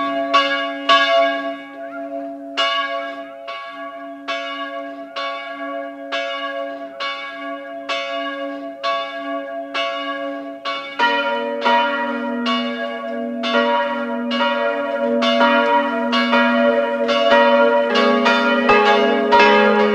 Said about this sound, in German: Es ist 12 Uhr. Es läuten die Glocken der Pfarrkirche Goldeck, Land Salzburg.